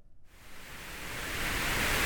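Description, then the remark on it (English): A steady hiss of white noise fades in quickly and swells gradually louder, a broad, even static wash with no voices. “Perhaps the soothing sounds of white noise.”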